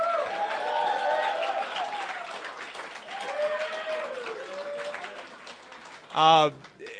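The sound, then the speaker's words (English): A remote studio audience at a live broadcast of the Political Cesspool Radio program cheers and applauds steadily, with rising and falling whoops and whistles over dense clapping, then one loud shout bursts out near the end. “Let your voices be heard after 10 long years together. Let's hear from the crowd.”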